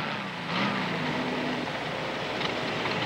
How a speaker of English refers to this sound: You hear this wonderful sound of the Volkswagen coming in, and it turns and it goes away.